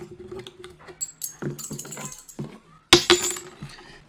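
Three coins rattle and clink as they are shaken for divination, scattered taps building up before a sharp, bright metallic clatter as they are tossed down, then a few settling clinks. Fairly loud.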